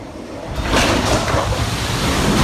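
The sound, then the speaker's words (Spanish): Heavy storm surf from Hurricane Ian crashes and churns in a loud, continuous roar on the Florida peninsula, with surges of seawater hitting hard against homes and businesses amid gusting wind noise, and no voices. “El mar golpeaba con fuerza las viviendas y negocios, y las embarcaciones navegaban sin nadie a bordo.”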